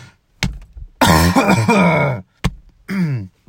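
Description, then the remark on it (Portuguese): A loud bout of coughing and throat clearing: sharp single coughs at the start and middle, with a long, strained, rasping throat-clearing sound in between and another at the end; the cough is not from smoking. “Pela tosse. Não é de fumar.”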